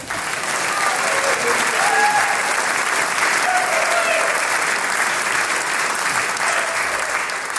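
Sustained audience applause, a dense steady wash of many hands clapping at an even loudness for several seconds, with faint crowd noise underneath.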